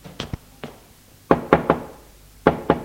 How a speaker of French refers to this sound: Frappe à la porte.